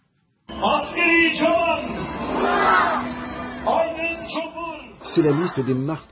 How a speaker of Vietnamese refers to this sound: Có rất đông người tham gia biểu tình, có thể vài chục ngàn người.